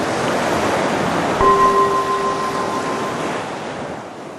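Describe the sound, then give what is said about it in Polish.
Ocean surf washes steadily as a broad, hissing roar that swells slightly and slowly ebbs, with a soft sustained chime-like tone ringing over it midway. No one speaks. “Fala się wznosi, fala opada.”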